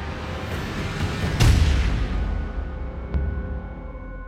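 A single loud gunshot in a field cracks out and rolls into a deep, booming echo that slowly fades, followed by a couple of faint sharp clicks; no one speaks.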